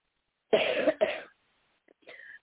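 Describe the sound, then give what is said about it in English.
Two harsh coughs from a person in quick succession, followed by a brief faint throat-clearing sound, with no talking in between. “I'm pretty sure you can hear this coughing I've been doing.”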